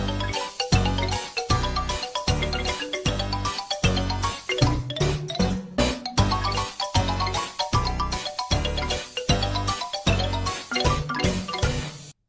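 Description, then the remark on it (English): A bright, busy musical jingle, the exit chime for the segment The Bone Zone, plays for about twelve seconds, with punchy bass notes and chiming tones in a steady bouncy rhythm, loud and up front with no voices. “Hit the exit chime, Micah.”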